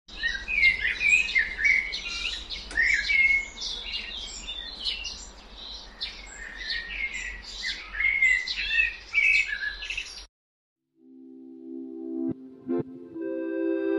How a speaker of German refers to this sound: Und dann klingt euer Chor vielleicht wie das kommende Vogelgezwitscher.